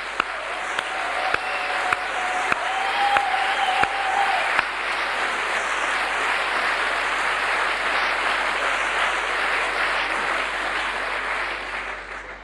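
Sustained audience applause for all mothers, a dense wash of clapping that holds steady for about twelve seconds. A few sharp, louder claps stand out early on, then the applause fades slightly at the end.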